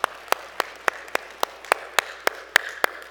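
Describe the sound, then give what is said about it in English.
Steady, evenly spaced hand claps applauding the Texas Tech Red Raiders, about eleven sharp claps in quick succession, like a single person applauding on a quiet background with no talking. “Let's applaud them.”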